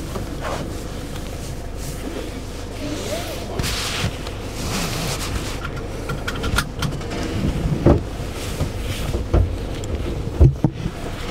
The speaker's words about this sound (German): Also machst die Tür zu.